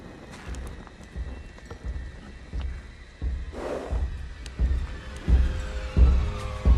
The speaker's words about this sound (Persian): یکی اون اطرافه. بازم سر صدای اون چارپا است. الان ساکتشون میکنم.